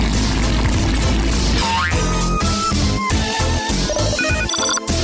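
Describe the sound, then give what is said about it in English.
A telephone rings at Hallux's Hearing Help Desk with a bright electronic ringtone, quick high tonal notes in a bouncy, repeating pattern, following a loud, dense burst and a short rising swoop. No one speaks. “Aha! I've got a call.”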